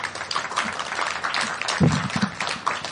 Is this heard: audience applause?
yes